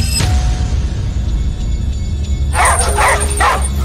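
A dog lets out three quick, sharp barks with a whimpering, whiny edge, after a stretch of low rumbling background noise. No one speaks.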